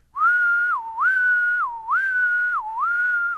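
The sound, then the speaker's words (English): A person whistles an imitation of the 'court two' courtship call of a male decim periodical cicada: four steady, mid-pitched phrases, each ending in a quick downward dip before rising again, in an even, repeating rhythm with no talking. “And then he'll shift over to court two if you do the clicking right.”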